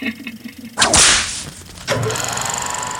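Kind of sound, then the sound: sound effect, whip crack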